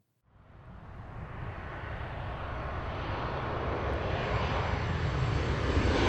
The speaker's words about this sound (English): The airplane turned a steep angle and prepared to land at the second most dangerous airport in the world, Tegucigalpa, Honduras.